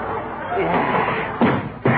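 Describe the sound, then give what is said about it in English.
Two sharp, heavy kicks against a wooden cedar chair land about half a second apart, loud, over a murmur of voices in the background. “I'm kicking that cedar chair.”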